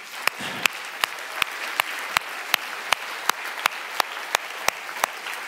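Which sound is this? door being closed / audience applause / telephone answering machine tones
audience applause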